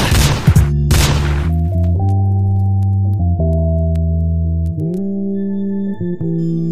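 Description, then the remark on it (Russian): Two loud, booming gunshots crack out in quick succession near the start, followed by a sustained low electronic drone that steps between pitches. No one speaks. “Три выстрела утихомирили обоих.”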